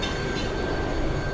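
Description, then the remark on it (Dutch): A running engine gives off a steady, dense rumble with a thin, constant high whine riding on top. It holds at an even loudness throughout, with no voices. “Het uitstervende ras der ontploffende motoren.”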